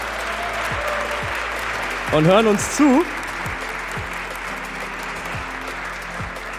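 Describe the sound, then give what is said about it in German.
Steady, dense applause from a live crowd fills the whole stretch at an even level, while a man's voice briefly speaks over the clapping partway through. “Nochmal bitte Applaus für alle Podcast-Hörerinnen und Hörer, die sind nämlich auch am Start.”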